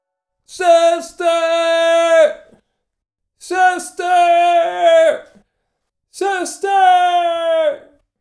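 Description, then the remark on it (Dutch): A man in his late 60s screams three times in the corridor of a rehabilitation centre, each a loud, strained, sustained cry opening with a short sharp yelp, separated by brief pauses of silence. “Het geschreeuw klonk over de gang van het revalidatiecentrum waar ik werkte als fysiotherapeut.”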